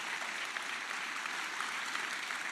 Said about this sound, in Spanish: Alguien diga amén. Y vamos a darle un aplauso bien fuerte. Jehová Jiré, nuestro proveedor.